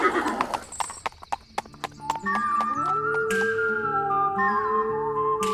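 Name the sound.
horse hooves clip-clopping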